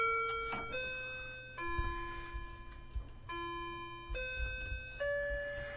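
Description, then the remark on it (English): A clock chimes a slow melody of about six sustained, ringing bell tones that step up and down in pitch, each note blending into the next, with a faint low hum underneath. “Oh, there goes my clock.”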